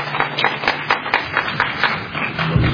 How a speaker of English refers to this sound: When you applause, you are wasting the time of the speakers.